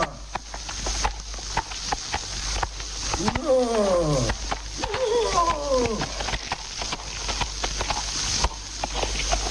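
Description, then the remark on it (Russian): Horse hooves clip-clop steadily on a dirt country road, fairly loud, while a drawn-out, sliding tonal call rises twice over the hoofbeats midway through. “Если человек не ездил на лошадях по глухим проселочным дорогам, то рассказывать мне ему об этом нечего.”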